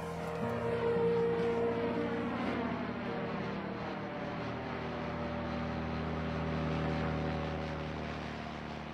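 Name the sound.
drone flying overhead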